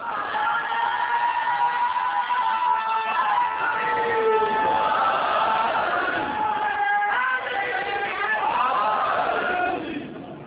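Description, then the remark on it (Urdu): A large audience recites salutations (durood) and chants slogans loudly in unison, many voices rising and falling together in sustained, sing-song recitation that continues without pause for several seconds before tapering slightly at the end. “تو اب اہل ضلع گھومیں گی, درود بھی بھیجیں گے, نعرے بھی لگائیں گے.”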